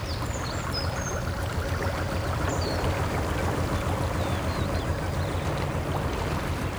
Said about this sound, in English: Wherever you are right now, here's a free gift from the Canal and River Trust. The calming sound of canalside life to make your day more relaxing.